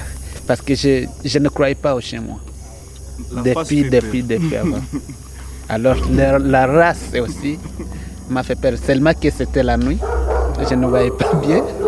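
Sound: bloodhound barking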